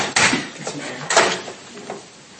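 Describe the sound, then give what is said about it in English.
A door is eased open a little, making two short scraping, rattling bursts about a second apart, followed by a few quieter knocks. “Do you mind if I crack this door?”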